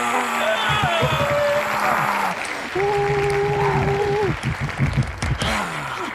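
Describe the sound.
A loud, sustained standing ovation from a crowd, dense clapping filling all six seconds, with sustained whoops and cheering voices ringing out over it.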